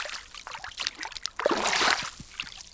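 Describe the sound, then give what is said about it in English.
People wading into a big lake of cool, clear water that stretches for miles in Death Valley, with irregular sloshing and splashing that swells into a louder, fuller churn midway before settling back to gentler swishes. “People stepping into a big lake of cool, clear water that stretches on for miles.”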